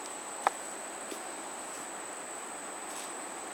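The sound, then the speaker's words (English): A dense, steady chorus of insects buzzing and chirping, with a sustained high-pitched drone and a few brief clicks, fairly quiet and unbroken, with no voices. “A lot of insects.”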